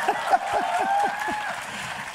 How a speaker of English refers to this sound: Give yourselves a loud round of applause, guys.